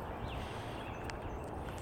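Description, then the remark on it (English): Faint woodpecker tapping on trees in the morning, a few sharp knocks sounding through a steady outdoor background hiss, with occasional soft bird sounds. “Hear a woodpecker working his way through some trees as well.”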